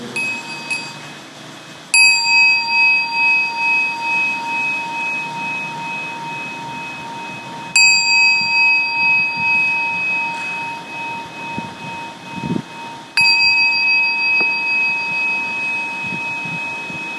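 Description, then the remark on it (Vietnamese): A mindfulness bell is struck three times at slow, even intervals during a seated meditation, each strike ringing out with bright sustained overtones that decay gradually into a long, shimmering resonance, with no talking. “Chúng ta lắng nghe và nhấn chuông.”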